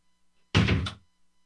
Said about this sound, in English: Close the door before she swears at us.